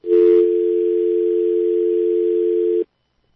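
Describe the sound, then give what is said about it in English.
A steady, unbroken telephone dial tone on a phone line that is not answering hums loudly for nearly three seconds after a brief crackle at the start, then cuts off abruptly into silence. No one speaks. “Apparently, I'm getting multiple messages now that the phones are not answering.”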